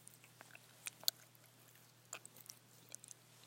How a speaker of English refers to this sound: Yeah, eat those stockings, baby. Chew them like that.